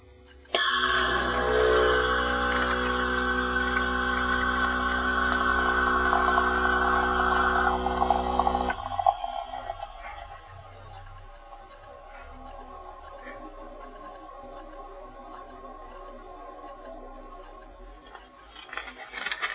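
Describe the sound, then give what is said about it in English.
A Senseo pod coffee machine brews about 2 ounces of coffee: a loud, steady electric pump hum drones for about eight seconds, then cuts off into softer sputtering and gurgling as the coffee drips out. “The Senseo TM coffee machine starts brewing.”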